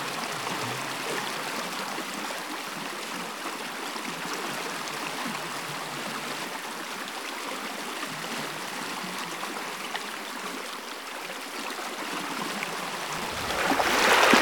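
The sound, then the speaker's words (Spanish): Steady rushing and burbling of flowing river water that two people are about to cross fills the whole stretch, fairly loud, swelling slightly louder with a brighter splash near the end. “No, Elena, tenemos que cruzar el río”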